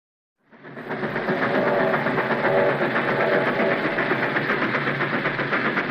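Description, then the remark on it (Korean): A moving train rolls along the rails with a steady, loud rumble and faint rhythmic clatter, fading in quickly and then holding constant, with no voices; a 1907 train carrying Korean envoys onward from Berlin toward The Hague. “그리고 베를린에 들러 공고사를 인쇄해 다시 열차에 오른다.”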